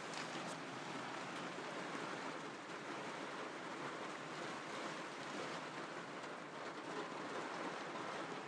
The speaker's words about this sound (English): I love the sound of rain on a caravan roof. I always have done, but this is very heavy and it's very windy as well.